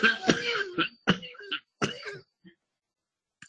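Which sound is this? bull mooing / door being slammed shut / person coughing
person coughing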